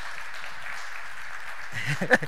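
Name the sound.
audience clapping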